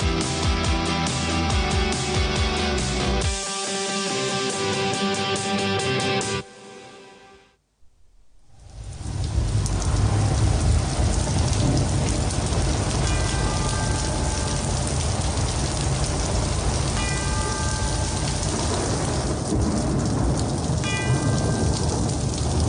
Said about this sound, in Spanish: Esa lluvia la reconozco. No es el agua de oro. Es la que caía en Birmingham hace más de 50 años.